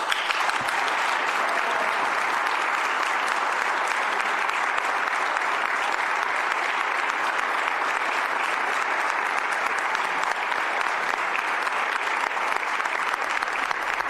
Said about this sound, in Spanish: Bueno, pues ya pueden escuchar los aplausos que se le están brindando a Juan Manuel Corchado Rodríguez, porque también se encuentra y presente en el Salón Rectoral, en la Casa Museo Unamuno